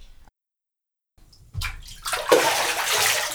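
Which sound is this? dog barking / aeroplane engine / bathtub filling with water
bathtub filling with water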